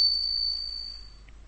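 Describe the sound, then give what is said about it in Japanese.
A front door chime rings once with a single high, pure bell-like tone that sustains and gradually fades out over about a second, heard alone with no voices. “しばらくするとまた玄関のチャイムが鳴った。”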